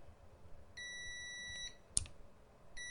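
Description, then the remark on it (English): A multimeter continuity tester, its probes being clicked together, gives a steady, bright electronic beep lasting about a second after a noticeable delay, followed by a sharp click and then the start of another beep. There's no talking, just faint background hiss. “I mean, it's a noticeable second or second and a half before it decides it wants to beep.”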